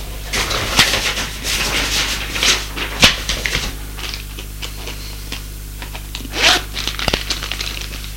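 A white-haired presenter packs papers into a green nylon briefcase in a studio: irregular rustling and crinkling with a few sharp zip-like swishes and clicks, over a steady low hum, no voices.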